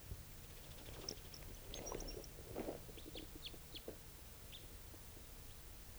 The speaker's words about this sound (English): Bird just flew a long distance, sort of giving a soft song in flight. I don't know if it's interested in the decoys.